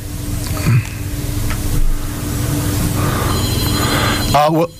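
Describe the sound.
A telephone rings briefly near the end, a steady electronic trill over a noisy hum with faint voices in the background.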